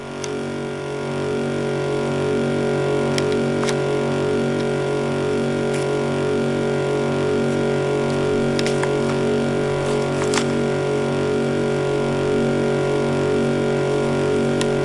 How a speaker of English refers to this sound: So definitely like a buzzing kind of vibrating sound, right?